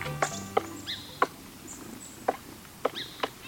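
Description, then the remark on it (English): A woodpecker carving out a nest hole in a tree trunk in spring: about six sharp, hollow knocks at an uneven pace, each a crisp single strike, with faint high bird chirps between them. “A woodpecker hard at work, carving out a nest hole in a tree trunk.”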